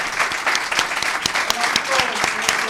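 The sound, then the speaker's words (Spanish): Loud, dense applause from a crowd, steady clapping throughout with sharp individual claps standing out and a few brief voices mixed in underneath. “Forte aplauso”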